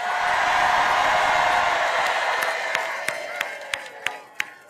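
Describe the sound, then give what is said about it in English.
A large rally crowd in Wisconsin, on a warm 78-degree day, applauds and cheers for Governor Tim Walz in a dense, continuous roar that slowly thins, leaving a few scattered sharp claps standing out near the end. “Can we hear it for Tim Walz?”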